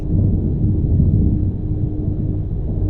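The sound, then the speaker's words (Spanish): A deep, rolling rumble of far-off thunder fills the scene, holding steady and heavy for a few seconds without any clear crack or voices. “Fue ahí cuando escucharon la tormenta. Lejana, pero retumbando en lo alto.”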